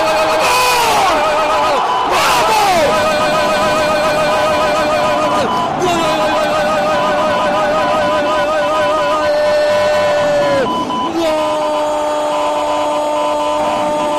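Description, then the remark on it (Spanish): A loud, sustained roar from the crowd at Burgos Club de Fútbol's El Plantío stadium celebrating José Matos's 93rd-minute equalising goal for a 1-1 draw against Real Zaragoza, with blaring horn-like tones and shrill whistles sliding up and down over the constant din. “Es el sonido del éxtasis, de la felicidad y de la liberación para seguir haciendo del plantío un estadio invicto.”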